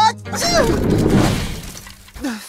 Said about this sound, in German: Chase nieste so doll, dass Schnee aufgewirbelt wurde und der Schäferhund darunter verschwand.